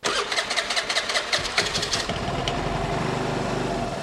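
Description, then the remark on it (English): The small engine of a brand new, bright yellow motor scooter cranks with a rapid series of sputtering bursts, catches after about two seconds, then settles into a steady idle hum with no one speaking. “I can't wait to strap on my helmet and scoot around town running errands.”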